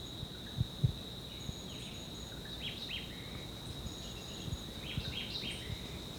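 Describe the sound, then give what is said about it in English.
Two short phrases of Jamaican white-eyed vireo song, each ending in a low buzz, from about 30 meters away in dense vegetation along a ridgetop, rise over a constant high insect drone, with a few soft low thumps early on. “Yeah, this is still a white eye.”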